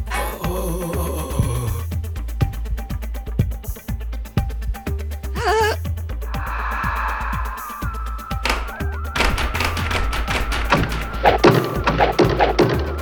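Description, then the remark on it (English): Rapid bursts of gunshots crack out in quick succession, sharp and fairly loud, over a dense backdrop of wailing, tonal sounds and low rumbling. “Gunshots.”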